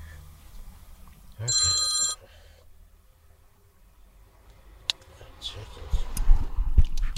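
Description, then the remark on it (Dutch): A mobile phone that had not been switched off rings in one short, bright electronic burst of stacked tones. Quiet murmuring follows, then clicks and rustling handling noise. “Ja, is jouw telefoon. Heb ik hem toch weer niet uitgezet.”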